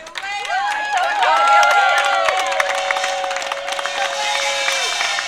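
A crowd applauds steadily for several seconds, dense clapping mixed with loud cheering and high whoops rising and falling over the top, easing slightly toward the end.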